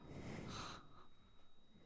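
A heavy, forceful breath rushes out in one loud, noisy exhale, almost a snort, then trails off into quieter, ragged breathing, with no talking.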